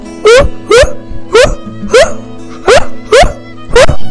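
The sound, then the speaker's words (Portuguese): A dog barks seven times in a steady, evenly spaced rhythm, each bark loud and sharp, over a faint sustained tonal background. “Achou um cão e a carochinha disse-lhe: Como é a tua fala?”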